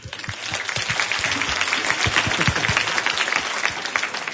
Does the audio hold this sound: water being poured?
no